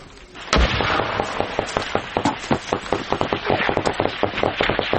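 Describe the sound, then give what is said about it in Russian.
Rapid bursts of automatic gunfire crackle continuously, sharp irregular shots layered, with one heavy boom near the start, a dense battle in which both sides use automatic weapons, machine guns and grenade launchers, with no voices. “Обе стороны задействовали автоматическое оружие, пулеметы и гранатометы.”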